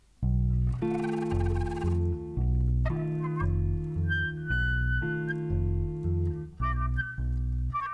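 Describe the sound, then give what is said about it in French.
A starling, a mimicking songbird, imitating other birds' calls, here loud, harsh, fowl-like notes in a run of long droning bursts separated by brief breaks, clear with no talking. “Ses préférences, il imite le loriot, la buse, le moineau, la poule.”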